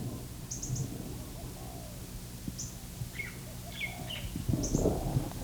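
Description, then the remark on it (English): Soft, low coos of a lace-necked dove amid the rustle of an orchard, with sharp high chips from a red Kentucky cardinal and short bird calls scattered over the top. “And there's a lace-necked dove.”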